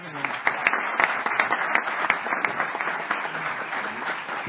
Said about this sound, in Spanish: Nada, y un fuerte aplauso por sus palabras.